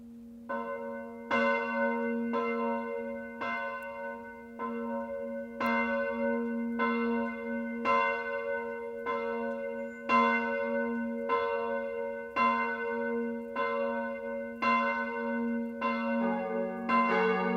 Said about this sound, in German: Und nun läuten Glocken die Weihnacht ein.